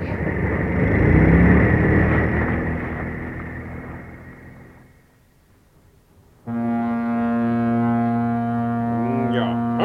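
A low rumble fades to near silence, then a motorboat engine abruptly kicks in and keeps running, a loud, steady droning hum with a buzzy, harmonic tone.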